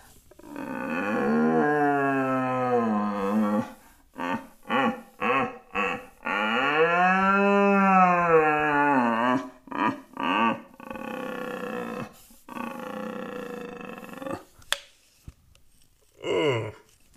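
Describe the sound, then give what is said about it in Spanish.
A person imitates a red deer's rutting bellow with long, deep, strained roars that rise and fall in pitch, broken up by a series of short, loud grunting bursts. No other voices. “¿Y qué más, chicos, sobre la berrea?”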